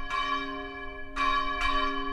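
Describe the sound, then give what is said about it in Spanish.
Church bells ring out on a Sunday for Mass in three resonant strikes, the first alone and the next two closer together, each leaving a long shimmering hum that lingers between hits. No voices are heard. “Pero es domingo, suenan las campanas y alguien tiene que dar la misa.”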